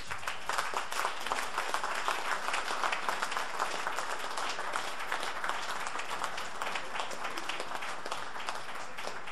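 A sustained burst of audience applause for the 50 musicians performing on stage that evening, dense crowd clapping blending into a steady crackling wash that stays fairly even in loudness throughout, with no voices on top.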